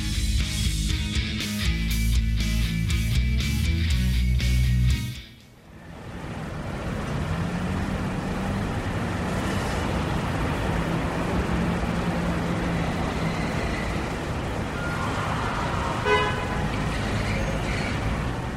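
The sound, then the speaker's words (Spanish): Loud, dense city traffic with overlapping car horns honking repeatedly in the first seconds, then a steady roar of engines and road noise with occasional toots. “La dependencia del coche ha llenado la ciudad de gases de efecto invernadero, ruido y espacios ocupados por vehículos”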